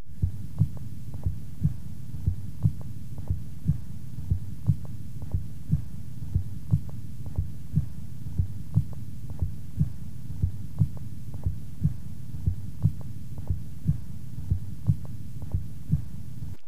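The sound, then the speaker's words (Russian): Heart sounds through a stethoscope at the cardiac apex of a patient with an extensive myocardial infarction, with a steady rhythm of paired beats in which the first sound is muffled and weaker than the second, over a low rumbling hum. No one speaks. “Прослушайте ослабление первого тона на верхушке сердца у больного с обширным инфарктом миокарда.”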